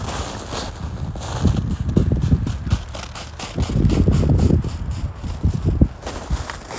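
Two sets of footsteps crunch and patter unevenly over leaf-strewn ground on a walk in a neighbourhood park in Sapporo, Hokkaido, on a December afternoon before snowfall, with a light breeze rustling in the background and no talking.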